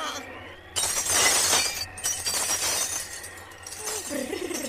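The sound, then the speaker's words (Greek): A crystal flower planter shatters with a sudden, loud crash, followed by a few seconds of bright, scattered tinkling as glass shards settle. “Πάει και η κρυστάλλινη ζαρδινιέρα.”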